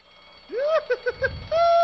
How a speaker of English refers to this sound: Listen to that alarm bell, Ratwoman. Isn't it the sweetest thing you've ever heard? It is indeed, Quipster, my dear. Especially since the police can't do a thing about it unless Commissioner Warden has them all out on 10-speed bikes.